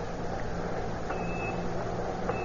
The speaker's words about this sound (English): Echo ranging, sir. He hasn't got us yet. Just poking around.